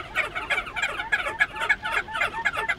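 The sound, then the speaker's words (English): A crested auklet gives a rapid, continuous string of nasal, yapping bark-like calls, each burst reedy and mid-to-high pitched, pulsing several times a second with no voices present. “If that's not whimsical enough, crested auklets bark like chihuahuas.”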